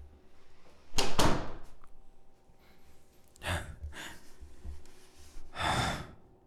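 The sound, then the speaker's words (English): A door bumps shut and is locked with a short, solid thud, followed by a pause and two heavy, breathy exhalations. No one speaks. “And you locked the door, huh?”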